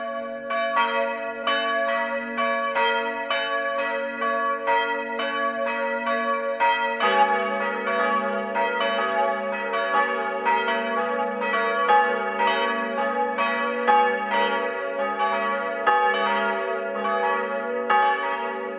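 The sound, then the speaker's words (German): Several bells of the parish church St. Leonhard in Kreuth, Upper Bavaria, Germany, peal together for the 12 o'clock noon ringing in a steady, overlapping ringing, loud and continuous, with a deeper bell joining partway through and rich ringing overtones throughout; no voices. “Das Mittagsläuten kommt heute aus Kreuth in Oberbayern.”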